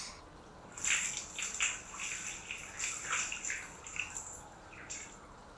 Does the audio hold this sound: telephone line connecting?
no